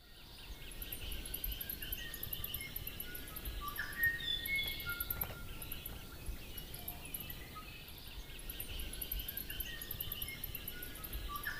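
A thin, high-pitched squeaky bird call repeats in short pulses over a busy natural soundscape of other birdsong and insect buzz, faint and easy to miss in the background; the calling bird flits on tree trunks.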